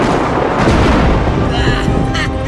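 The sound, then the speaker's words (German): A huge thunderclap from a lightning bolt discharging directly overhead: a loud, dense roar of deep rumbling and crackling that holds steady for a couple of seconds without fading. “Ein gewaltiger Blitz entlädt sich genau über ihnen.”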